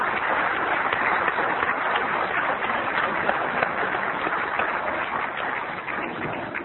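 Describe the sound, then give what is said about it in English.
A crowd applauds steadily, a dense, even wash of many hands clapping at once that holds its level for several seconds before easing slightly at the end. Nobody speaks over it. “And I think I'd like to personally give a little bit of a round of applause for those people who aren't here right now but who made it possible for us, because I don't know where I'd be without you.”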